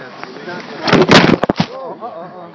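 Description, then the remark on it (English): A chair knocks and scrapes in a short cluster of loud, clattering thumps, with people talking quietly before and after. “It's just a chair.”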